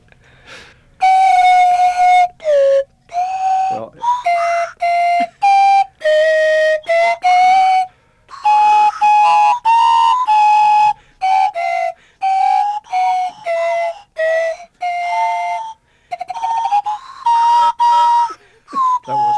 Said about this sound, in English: The concert slide whistle duo